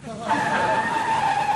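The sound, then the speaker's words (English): A loud, sustained screech of car tires skidding, a high squealing tone holding steady for over a second, prominent with no talking over it. “Gee, honey, that might have been your Dodge.”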